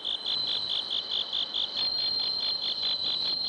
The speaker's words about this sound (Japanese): 仙台市の虫としても知られるスズムシ、自然ではなかなか見つけることが難しくなりましたが、そんなスズムシを飼育している岩切市民センターにお邪魔して鳴き声を録音させていただきました。